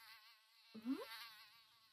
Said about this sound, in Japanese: ありゃ、ハエが入ってきちゃったね。あ、でも大丈夫だよ。